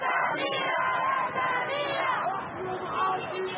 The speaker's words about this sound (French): Ce jour-là, devant le tribunal du Caire, la foule scande un seul prénom, celui de Samira.